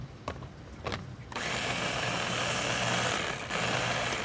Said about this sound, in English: Today, Gladstone stuffs a wild green called lamb's quarters into a blender.